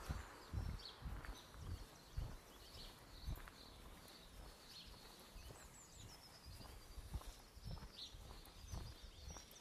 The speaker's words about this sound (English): This is a bird song. Isn't it lovely?